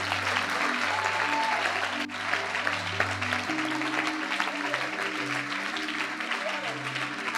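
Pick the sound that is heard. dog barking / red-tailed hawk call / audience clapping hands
audience clapping hands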